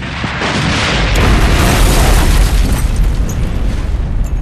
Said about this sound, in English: And with a thundering explosion, the droidica disintegrated. And then, everything was once again still.